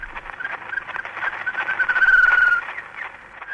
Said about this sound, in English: Actually, the first guy to develop a parabolic dish was a fellow named Ludwig Koch, K-O-C-H, and he was a German fellow who moved to the UK, and in 1889 recorded the first bird.